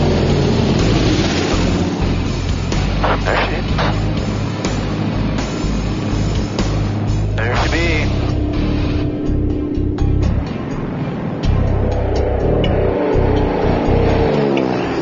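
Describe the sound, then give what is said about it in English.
A loud aircraft engine roars throughout a low pass made to determine wind direction by the aircraft with call sign Buffalo 525, a steady, heavy drone that swells and shifts in pitch as it goes by, with no voices. “does a low pass to determine wind direction.”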